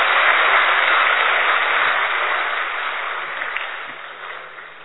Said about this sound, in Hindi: जोर से ताली बजा के स्वागत करेंगे।